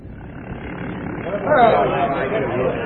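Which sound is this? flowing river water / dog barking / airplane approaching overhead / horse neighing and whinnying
airplane approaching overhead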